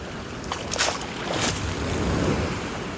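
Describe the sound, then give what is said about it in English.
Steady sloshing of sea water around a person wading waist-deep into the sea, with quite big waves and surf washing around, a couple of brighter splashes early on, and wind buffeting the microphone throughout. “Lained on päris suured.”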